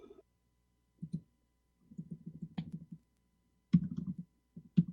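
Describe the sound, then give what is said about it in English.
Quick, soft tapping on a computer keyboard comes in uneven bursts, with a few sharper key clicks standing out. No one speaks, and short quiet pauses separate the flurries of keystrokes. “God, I wanted to start up my browser, and I was typing in Mozilla, and I'm like, Mozilla, what the hell?”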